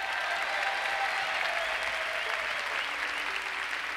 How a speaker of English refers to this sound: Thank you for the well-deserved applause.